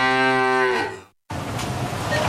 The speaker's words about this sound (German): Finde eine der letzten beiden muhenden Müllermilchflaschen und gewinne 50.000 Euro